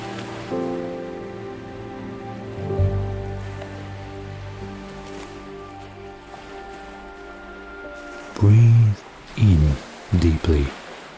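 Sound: ocean waves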